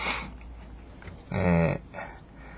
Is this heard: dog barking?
yes